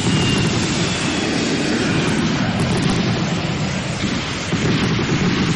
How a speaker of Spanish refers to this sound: Era un día nublado, muy mal tiempo. Se produjo un claro en el cielo y los aviones aeronavales, que hacía 2 horas que estaban esperando una oportunidad, se lanzaron desde el río sobre la Casa de Gobierno.